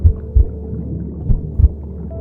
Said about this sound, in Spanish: Escuchas los latidos de tu corazón.